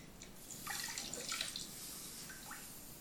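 Quiet water sounds of a person being washed on the arms and chest with a sponge and soapy water: soft splashing and trickling in the middle, then a few small distinct drips near the end, over a steady hiss with no one speaking.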